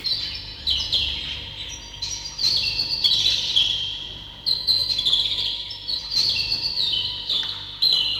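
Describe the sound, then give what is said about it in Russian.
Lively birdsong of bright, high chirping phrases repeating in bursts, steady over a soft low background, with no one talking. “Но все-таки давайте вернемся в мир птичьих голосов, с которого мы начинали нашу передачу.”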